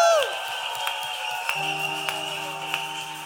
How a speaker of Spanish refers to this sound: ¿Cuántos aplaudimos su presencia?